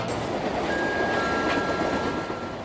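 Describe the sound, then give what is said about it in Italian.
A steady, dense rumble of high-speed train FR 8529 running along the rails, with a faint thin whine held above the roar, continuous throughout. “FR 8529, alta velocità tra musica e pensieri.”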